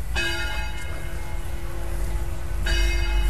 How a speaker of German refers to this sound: Da erklingen die Glocken der Marienkirche, die wir jetzt auch direkt betreten.